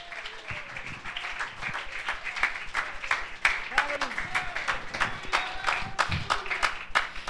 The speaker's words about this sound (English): Can you clap your hands and let's worship the Lord?